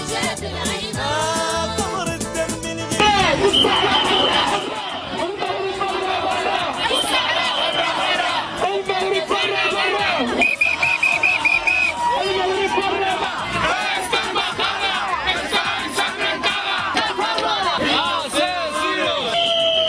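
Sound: protesters shouting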